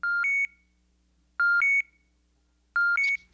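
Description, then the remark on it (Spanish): Three short bursts of bright electronic beeps, each a quick two-tone pair, an echolocation signal sent out to locate an insect such as a mosquito, repeating at a steady interval of about a second and a half against a quiet background. “Cuando Marcelo produce un sonido, puede localizar a un insecto que esté a 10 o hasta 20 metros de él. Marcelo manda su señal.”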